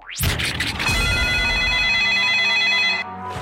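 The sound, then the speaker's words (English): A loud telephone rings once in a long sustained burst, preceded by a quick rising whoosh, then cuts off abruptly, in a Halloween phone-in promo for the radio station Clyde One. No one speaks. “Do you like scary phone-ins?”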